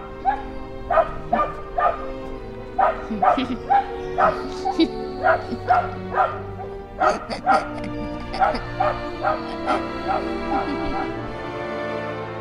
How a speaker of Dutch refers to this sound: Ja, maar waarom blijft die hond huilen? Ja, er is iets met die hond. Ja, pap, nu heb je hem boos gemaakt, hè? Dan gaat hij expres door.